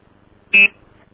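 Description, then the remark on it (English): A single short, high-pitched electronic beep on a phone line, loud and steady for a fraction of a second, then cut off, leaving faint line hiss. “Beep. This is interesting.”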